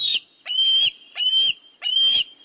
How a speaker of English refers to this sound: National symbol though it may be, this juvenile bald eagle, not long out of the nest, is anything but graceful at the moment.